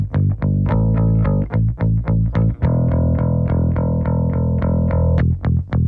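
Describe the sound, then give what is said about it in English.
A distorted bass guitar plays a rhythmic riff, mixing ringing open notes with short choked-off ones, loud with no voices. “I like the two different tones, open, closed. Choking it off, as they say.”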